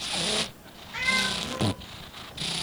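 A congested cat with cat flu at an animal shelter snuffles and wheezes through its nose in a few raspy, breathy bursts, with a short strained meow in the middle, fairly loud with no one talking.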